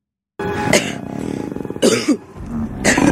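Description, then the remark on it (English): A voice imitates a man's normal cough overlapping a deep, guttural pre-vomit retching groan from his guts, with sharp bursts recurring about three times over a rough, sustained throaty drone, loud. “Now, I can't make these two sounds at once, which is a normal cough and then this weird guttural sound coming out of his guts.”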